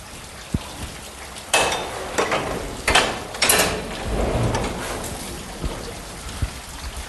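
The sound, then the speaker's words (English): A 1712 steam engine driven through a single pumping stroke, with steam let into the cylinder by a steam lever: a few sharp bursts of hissing steam, scattered metallic clicks and knocks, and a deep rumbling surge near the middle, fairly loud. “I'm now going to drive a 1712 steam engine.”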